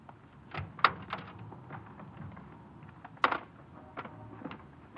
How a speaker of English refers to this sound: The car wasn't locked. I opened the door, and...